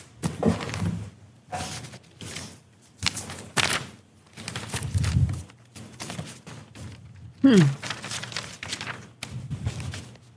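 Papers are shuffled and rustled in a series of irregular bursts, with soft thumps as sheets are handled and set down, moderately loud.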